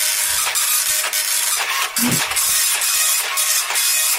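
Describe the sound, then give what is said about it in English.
A slow printer grinds through a page, a steady mechanical whir broken by regular rhythmic clicks and pulses about twice a second. It is fairly loud, with no talking. “Quite a slow printer,”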